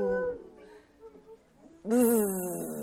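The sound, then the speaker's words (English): A dog gives a brief yelp, then after a short pause lets out a loud, wavering howl that rises and falls for about a second, with no one talking. “Peek-a-boo, little dog, woof, woof, woof, hiding underneath the log.”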